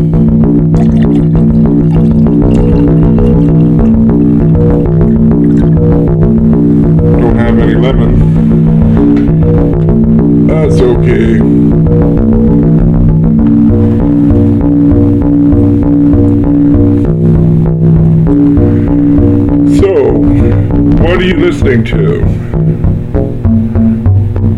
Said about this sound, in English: You are listening to a pair of Car Plus Strong boards bolted together, running off of 2 9-volt batteries. One of them is a first run board, a KS7 board, Revision 7, and the second one is a second run board,